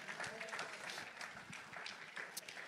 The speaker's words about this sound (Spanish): Denle un fuerte aplauso a Jesús, hermanos. Déselo fuerte al quien vive y reina para siempre.